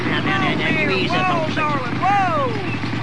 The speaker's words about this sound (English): Well, here comes Cecil Ferris in his motorcycle.